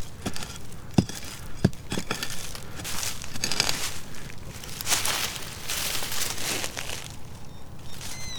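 A hand-forged hand pickaxe, a special tool, bites into soil with a few sharp strikes early on, followed by steady crunching, scraping and crumbling of earth as the ground is dug, with no talking.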